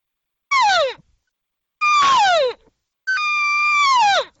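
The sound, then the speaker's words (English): Three loud, drawn-out cow elk regathering calls, used to gather the herd, each a high nasal mew that slides downward in pitch at the end, the last one the longest, with short silences between them. “So here's the sound that they'll go to, and you'll notice the difference between that and the social talk.”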